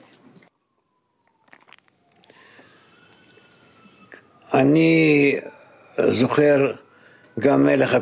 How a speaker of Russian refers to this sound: Секундочку, давайте остановимся, потому что у нас, мы тут слышим сирену. Когда это пройдет, вы снова начнете ответ.